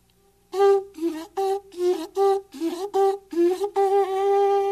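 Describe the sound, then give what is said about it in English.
A seashell horn, its end cut off to make a long tube, is blown in a series of loud, buzzy tonal blasts, about nine short ones and then a longer held note, the pitch sagging and bending between blasts as a hand inside the shell changes it. “Now, if I put my hand in here, I can change the pitch.”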